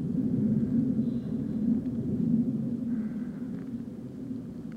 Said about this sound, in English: You may be able to hear a plane flying overhead. We are on the flight path here to Leeds Bradford Airport. So it can get a bit busy in the sky around here.